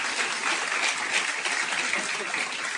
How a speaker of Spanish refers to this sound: Un aplauso